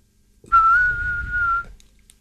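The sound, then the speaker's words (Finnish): A person in a radio studio whistles an imitation of a chaffinch: one steady, mid-pitched note held for about a second, clear and fairly loud, with no talking around it. “Seuraavana lintuna peipoinen.”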